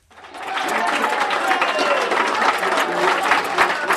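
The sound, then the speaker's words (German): About 60 people from Neuchâtel, party supporters gathered in the Café Federal in Bern, break into cheering and sustained clapping as Didier Burkhalter is announced as elected. A dense, loud wash of applause with excited voices mixed in throughout. “Unter den rund 60 Neuenburgerinnen und Neuenburger im Café Federal bricht Jubel aus.”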